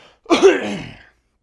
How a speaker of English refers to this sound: Plus I need to clear my throat again.